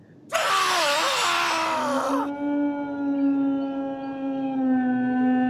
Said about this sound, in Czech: To je ten pes, vykřikl Holmes.